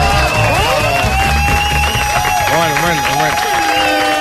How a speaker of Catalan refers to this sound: Doncs un aplaudiment pel públic d'avui del Versió!